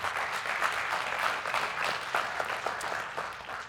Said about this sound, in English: I'm so glad to hear you clap because I was about to say, I'm gathering with all of you.